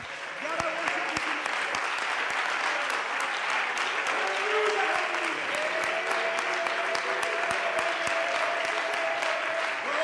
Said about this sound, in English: Hallelujah. Let's give Him another good hand clap of praise.